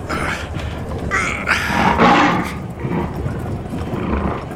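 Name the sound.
lion roaring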